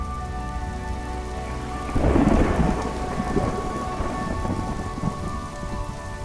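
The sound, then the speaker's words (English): Steady monsoon rain patters on a surface while a deep rumble of thunder swells up about two seconds in and rolls on underneath, loud, with no voices. “It's less a season here than it is a dramatic cameo appearance by some wind and a little rain.”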